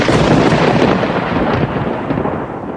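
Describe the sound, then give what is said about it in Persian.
A loud rumble of thunder rolls continuously for a few seconds after a lightning strike, with a dense crackling roar that slowly eases toward the end. No one speaks. “و از نشانه هایش این است که برق آسمان را به شما نشان می دهد که هم مایه امید است برای آمدن باران و هم باعث ترس و وحشت شماست به خاطر صاعقه های مرگبار.”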